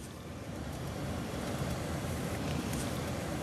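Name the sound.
car interior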